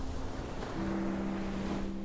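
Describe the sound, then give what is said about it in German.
Sea waves wash and crash against the stone walls of rocky cliffs in a steady, fairly loud roar, with a low droning tone, like a foghorn or boat engine, running underneath. No one speaks. “Du hörst das Meer, wie es gegen die Steinwände peitscht.”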